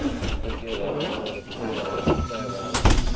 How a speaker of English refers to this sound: Doors open.